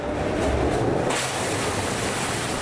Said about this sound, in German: Innerhalb kürzester Zeit fluten tausende Liter Wasser ein Betonbecken. Das Wasser schießt in den Wildwasserkanal des Kanuparks Mark Kleeberg, erzeugt Strudel und Wellen.